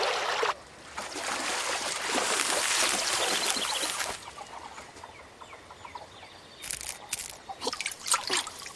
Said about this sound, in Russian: Мы идем, а тут нас как снесло. И все мои пирожки смылись. Но откуда эта вода взялась?